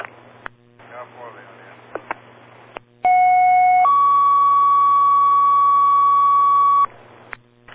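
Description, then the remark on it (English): Fire dispatch alert tones over a radio, toning for a second alarm for a shed on fire at 72 Pond Court: a brief steady tone shifts to a longer held tone, loud and clear over static, with short bursts of garbled radio chatter before and after. “Fox alarm assignment toning for a second alarm.”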